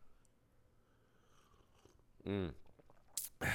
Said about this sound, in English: Sip of the Insta coffee, one sec.